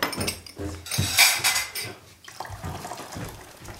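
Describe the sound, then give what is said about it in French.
Dishes and cutlery clatter and clink irregularly as children clear the table, with a brighter burst of rattling plates midway and some running water. Faint voices murmur underneath. “Les enfants, on débarrasse la table”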